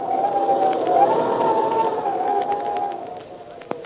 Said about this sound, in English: Say, when you hear the wind blowing like this, what's the first thought that pops into your head?